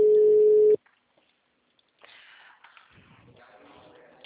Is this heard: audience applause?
no